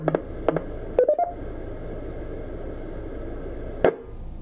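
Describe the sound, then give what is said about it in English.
Short electronic beep tones come over a radio net's repeater channel: two single beeps, then a quick rising run of three or four tones, and one last beep, all over a steady hiss. “Okay, anybody else want to check in, or whoever made the beep, if they are trying to get our attention, please come now with your call sign.”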